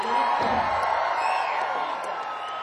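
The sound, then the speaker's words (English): A large concert crowd in Nashville, including people in the balcony and the main floor, cheers steadily at a night show: a dense roar of voices with scattered whoops and shouts rising above it, loud throughout and easing slightly toward the end. “A beautiful looking crowd here tonight.”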